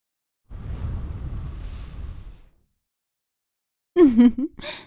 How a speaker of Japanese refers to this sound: 耳元に吐息を。